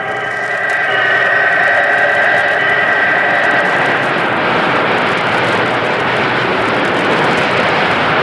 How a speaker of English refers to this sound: We walked around the machine and picked up the sounds of the auxiliary equipment. This is the oil circulating device that circulates oil around the bearing of the rotary condenser, which is inside the machine.